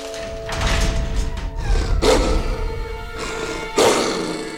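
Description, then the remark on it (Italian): A huge monstrous dog roars and growls, a deep continuous rumble broken by two loud, harsh bursts, one midway and one near the end, with no voices present. “Il cane guardiano della terza stanza era una specie di dinosauro.”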